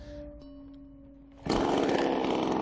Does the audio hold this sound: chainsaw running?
yes